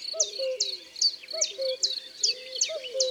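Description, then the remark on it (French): A male cuckoo sings its two-note falling call three times in steady succession, while high, rapid chirps of other birds or insects trill continuously in the background. “Le coucou non plus n'a pas un chant très varié. C'est le mâle qui chante, partout et à toute heure, de l'aube au crépuscule.”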